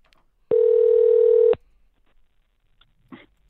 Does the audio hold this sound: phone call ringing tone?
yes